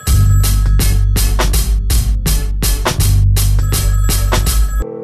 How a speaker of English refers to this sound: I know he's sitting there. He's watching the phone ring.